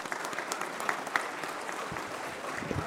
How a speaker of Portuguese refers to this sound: Cerimonial, gostaria de agradecer e destacar a presença do nobre vereador Reginaldo Burgues. Uma salva de palmas.